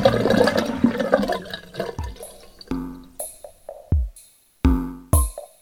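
A toilet flushes with a loud, churning rush of water that drains away into a series of sharp gurgles and splashy drops, separated by brief silences.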